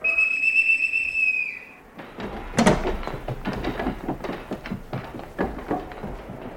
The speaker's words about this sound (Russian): Свистать всех наверх!